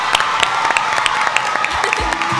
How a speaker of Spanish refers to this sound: Pues venga, un fuerte aplauso y nos despedimos. ¡Bravo!